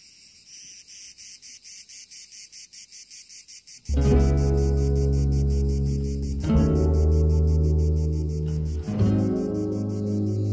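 Cicadas chirp in a steady, rapid pulsing rhythm on a summer day in the south, alone for about four seconds before loud music swells in and plays over their continuing drone.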